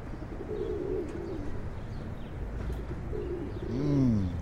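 Soft, low pigeon coos rise and fall in a few rolling phrases, with a fuller coo near the end over a steady outdoor background hum.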